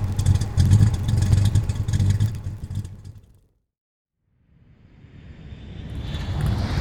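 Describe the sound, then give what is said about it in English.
A heavy jet aircraft roars loudly overhead, then fades out into a moment of silence before another jet's rumble and high whine swell back in, growing louder: huge four-engine K-121 airlifter jet troop carriers, hundreds filling the skies, descending from the clouds over Zurich. “Hundreds of planes filled the skies. Huge K-121 airlifter four-engine jet troop carriers that had set out 8 hours earlier from Munich, Berlin, and Stuttgart.”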